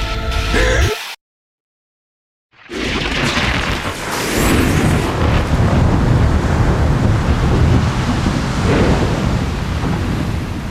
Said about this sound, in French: La tempête est trop envahissante. Je sais. Les vagues nous passent dessus.